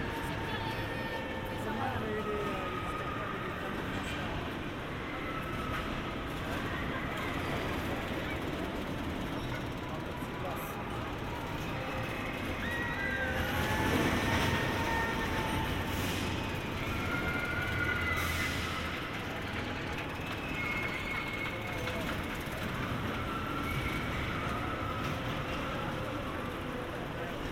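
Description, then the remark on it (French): A fast ride train running along its track from right to left, heard from directly opposite, a little way off: a steady rumbling roar that swells briefly midway, with scattered high screams and shouts from riders rising over the continuous noise. “On est juste en face, un petit peu loin, mais vous l'entendez déjà circuler et les cris des gens.”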